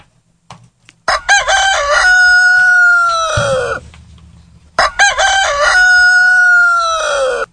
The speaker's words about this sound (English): You're right. It was my friend Mary Beth's rooster, crowing.